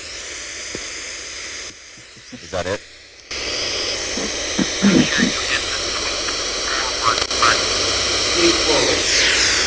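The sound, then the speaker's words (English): Steady, harsh radio static from a radio on sweep mode hisses across the whole clip, briefly dropping lower before surging back at full level, while people talk over the noise. “It was on this sweep mode that was just constant static here.”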